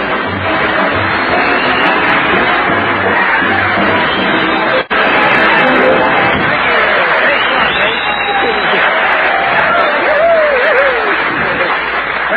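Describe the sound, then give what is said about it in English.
Sustained loud applause from a large studio audience welcoming comedian Red Skelton on the Raleigh Cigarette Program, a dense wash of clapping that stays steady for several seconds with a murmur of crowd voices and a few chuckles mixed in. “That kind of applause, medical science will offer you proof positive.”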